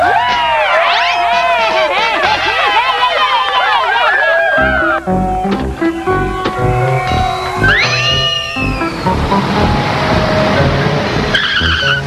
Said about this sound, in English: Is that a stretch limo or what?